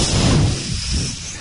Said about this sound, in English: I just thought I'd give you the wind sound effects. I'm here to help.